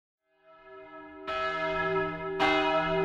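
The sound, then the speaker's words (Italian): A church bell tolls a death knell slowly, with a heavy new stroke roughly every second over long, shimmering overlapping resonance. The ringing is full, with no voices present. “Le campane che sentite in sottofondo sono le campane che segnano la fine di una vita.”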